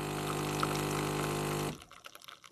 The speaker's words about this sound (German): Ja, da läuft die Kaffeemaschine noch und schon ist das OM Café Ausgabe 4 hier.